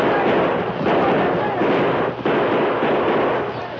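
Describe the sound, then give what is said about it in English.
A dense, continuous barrage of gunfire in a battle crackles and booms without pause, shots coming from every rock and from behind every tree, many overlapping into a loud, rumbling wall of noise that briefly dips before surging on. “Gunfire came from every rock and from behind every tree.”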